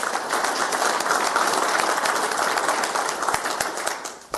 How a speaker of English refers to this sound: And give a good round of applause to Steve Freed, please.